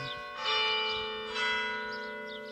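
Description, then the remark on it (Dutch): A bell of the Chevetogne monastery (Monastère de l'Exaltation de la Sainte Croix) in the diocese of Namur tolls at 11 o'clock, two rich, ringing strikes about a second apart, each swelling then lingering in a long humming resonance with no voices. “Men hoort hier de vogels fluiten en af en toe een klok.”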